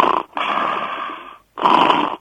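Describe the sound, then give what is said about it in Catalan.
A person imitates the loud snoring of someone with sleep apnea, with three harsh, rasping snore bursts separated by brief silent gaps, and no talking. “Totalment cert, perquè tal com jo ara t'he fet un soroll, és a dir, quan una persona fa una apnea, comença a roncar, fixa't, i ara t'ho imitaré jo, eh?”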